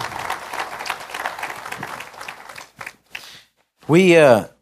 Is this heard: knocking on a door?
no